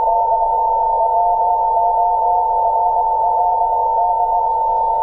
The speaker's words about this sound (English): This time the file is secret2.txt. You can hear the Morse code.